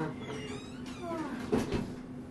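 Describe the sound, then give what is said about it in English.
A door knob rattles and a latch clicks as someone tries to work open a door that has been fixed shut, a couple of sharp knocks over a steady low hum, with faint vocal sounds in the background. “I can't get out. The door has been fixed,”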